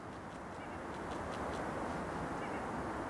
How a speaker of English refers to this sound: You hear that? That was it. The cacophony of bird.